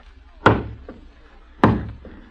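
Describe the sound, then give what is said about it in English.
Two heavy, resonant knocks on a door, each followed by a softer rap, with a pause between the pairs. The knocking is loud, with no voices. “Someone at the door.”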